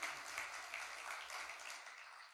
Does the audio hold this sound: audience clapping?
yes